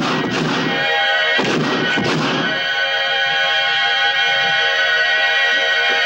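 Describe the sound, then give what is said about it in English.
Three loud, booming gunshots ring out close together in the first few seconds as a man fires his gun at a door in a stone fortress courtyard, each with a short echoing tail, over a steady tonal drone that continues alone afterward. “He draws his gun and fires.”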